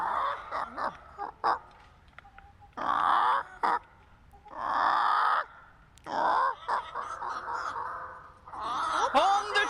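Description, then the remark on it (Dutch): A person imitates a chicken, starting with short staccato clucks, then several longer, loud, raspy squawking calls in uneven bursts with brief pauses between them. “Ik zal de kip ook even nadoen.”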